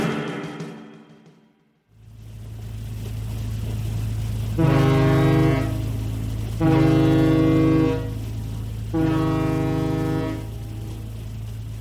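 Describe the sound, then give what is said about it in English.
A ferry's horn sounds three long, deep blasts with a rich harmonic tone, each about a second and a half, over a steady low engine rumble that continues throughout. “I step out into the ferry's cargo bay and lock my car door”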